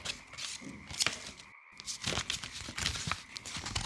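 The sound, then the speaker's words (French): Crisp snipping and paper rustling as scissors cut out the rounded parts of a paper figure, including its easily torn arms, in short irregular bursts, a brief pause midway, then more steady crunchy cuts. “Je découpe tout ce qui est arrondi. Faut faire attention avec les bras parce que ça se déchire facilement.”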